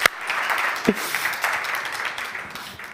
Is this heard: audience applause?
yes